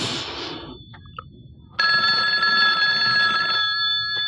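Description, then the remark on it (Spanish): An old-fashioned telephone bell rings loudly and steadily for about two seconds, a bright metallic trill, after a brief stretch of hissy noise and a faint click; no one speaks. “El timbre del teléfono le hace suspender sus pensamientos y reacciona con enfado descolgando el auricular telefónico.”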